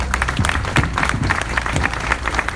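An audience claps steadily for a band, a dense, sustained patter of many hands at a moderately loud level, with no voices standing out.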